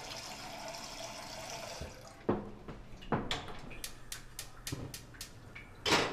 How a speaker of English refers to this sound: Right now, I am filling up a pot with water to boil.